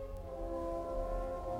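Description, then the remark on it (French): A car horn blares in one long, unbroken honk, its steady tone loud throughout, with no voices. “Le klaxon n'est pas un jeu.”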